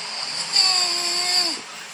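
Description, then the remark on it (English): A single snore lasting about a second, high and whiny like a baby's cry, trailing off with a slight downward dip over a steady background hiss. “Was that a snore? That was my snore, bro.”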